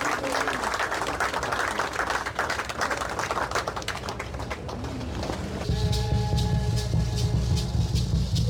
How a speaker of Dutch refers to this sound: Geef ze nog een applaus, dames en heren.